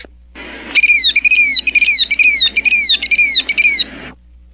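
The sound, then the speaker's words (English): A person imitates a killdeer call with a quick run of about seven loud, shrill, high-pitched cries, each bending up then down, repeated rapidly with no talking. “And gee, it's been so long since I've heard a killdeer.”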